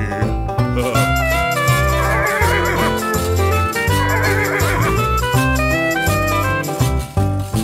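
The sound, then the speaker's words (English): A shrill, wavering horse whinny rises over a bouncy, full musical backing, lasting a few seconds in the middle before the music carries on alone. “Knock, knock, who's there? Interrupting horse.”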